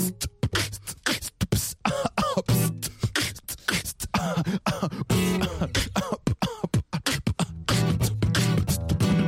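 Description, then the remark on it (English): A human beatbox groove of sharp, rhythmic mouth percussion, with coughs and throaty bursts worked into the beat, loud with no talking. “Now I can easily cough and throw the beatbox off. I mix the beat with the cough and the problem is solved.”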